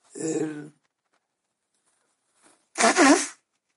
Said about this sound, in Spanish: Ya, como es natural, ha llegado el estornudo de rigor por la luz, que tanto lo había atrasado. Perdón, pero no tengo más remedio. Me molesta, aguanto lo que puedo, pero si estornudo, eso no hay quien lo aguante.